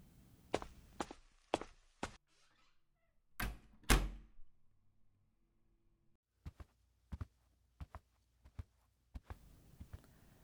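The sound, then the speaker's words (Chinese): The door of a home swings shut with a heavy thud, amid sharp clacking steps before and a steady run of footsteps walking away afterward. No one speaks. “再不进来，我就要关门喽。”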